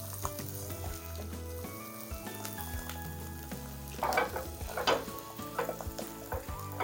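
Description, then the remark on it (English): Cracked eggs sizzle steadily in a frying pan, with a few louder scraping swishes toward the end as they slide across the hot surface; fairly loud, no voices. “Oh, and see how it slides beautifully.”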